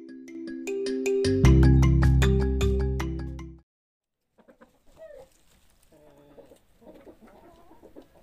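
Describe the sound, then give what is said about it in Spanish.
A loud, bright musical sting plays for a few seconds and cuts off, followed by soft, intermittent clucking from Josefina's five hens in a small town in California, with short irregular clucks scattered over a quiet background. “Josefina ayuda a sus papás cuidando a las gallinas, dándoles de comer y recogiendo sus huevos.”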